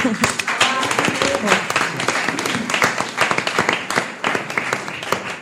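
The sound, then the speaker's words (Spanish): A crowd bursts into steady, dense applause lasting several seconds for the 45th anniversary of a local community radio-television station in Spain, many hands clapping at once in a loud, crackling wash, with voices calling out and cheering underneath. “¡Un aplauso!”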